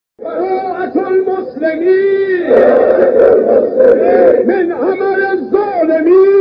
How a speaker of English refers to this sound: Meanwhile, a crowd of Iranian pilgrims gathered outside Mecca to chant slogans against the United States and Israel.